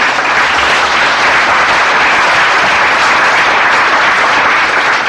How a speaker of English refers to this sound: You can applaud him.